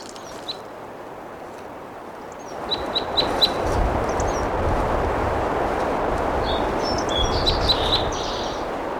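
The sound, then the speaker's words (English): A wild red crossbill, perched in a Ponderosa pine above a camp and recorded at 2:35 p.m., sings a series of short, clear, high chip notes, first a quick run of four evenly spaced, then a burst of twittering phrases, over a steady rushing background hiss. “It's been a wild cross bill here, recorded in song on the end of 86 side B.”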